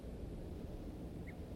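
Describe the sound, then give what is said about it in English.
A single short alarm note from a wild male bird sounds once, faint, against a steady rush of wind and water noise. “One alarm note by the wild male.”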